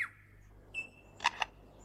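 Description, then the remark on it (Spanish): A bird in a forest mimics a camera shutter: a sharp whistled tone followed by two quick, bright clicking bursts, clear against a quiet background hum. “Ese era el obturador de una cámara.”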